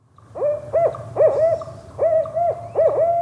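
An owl hoots repeatedly in a steady rhythm, several clear, fairly loud calls with short gaps between them, set against a quiet low background hum with no one talking.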